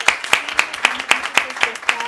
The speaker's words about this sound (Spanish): Démosle un fuerte aplauso, por favor.